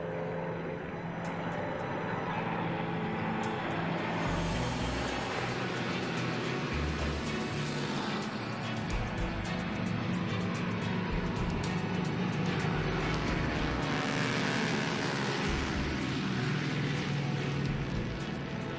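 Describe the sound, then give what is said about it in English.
Loud, continuous droning of vintage aircraft engines as planes from aviation companies pass overhead in a memorial flyby in Yellowknife, a broad roar that swells and lingers, with no voices present. “Every aviation company in Yellowknife, with a plane and pilot to spare, pays its respects.”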